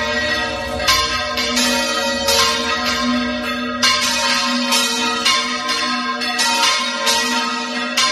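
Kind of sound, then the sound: signal or alarm, manually rung church bells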